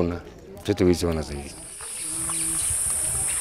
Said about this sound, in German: Der Blick über ein Tal, in dem sich ein Schwarm niedergelassen hat. Von Weitem sieht es aus, als würden die Bäume rosarot blühen. Von Nahem sind es kahl gefressene Äste mit Heuschrecken, genauer gesagt Wüstenheuschrecken